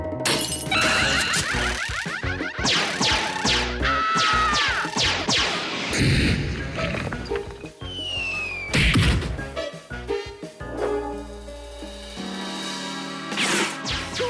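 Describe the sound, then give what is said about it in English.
A loud, chaotic run of glass shattering and crashing, with repeated sharp smashes and bright tinkling debris scattered across the whole stretch, intense, no voices. “Now, if he were to hear the sound of glass breaking or screaming, for example, he'd elevate his response.”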